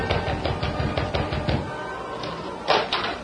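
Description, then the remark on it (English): In a Lone Ranger radio drama, a young sailor's knuckles rap on the wooden door of the Stevens home in a quick, steady series of hollow knocks. After a brief pause, a single heavier thump sounds. “In the meantime, the young sailor rapped on the door of the Stevens home.”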